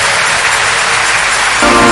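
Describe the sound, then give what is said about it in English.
A large crowd at a church congress applauding loudly for the Lord, a dense, steady wash of many hands clapping at once with no voices standing out, growing slightly fuller toward the end. “The rest of us, let's give the Lord a big round of applause for the first fruit of this Congress.”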